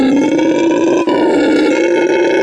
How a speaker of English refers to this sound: This is the noise that this monkey makes.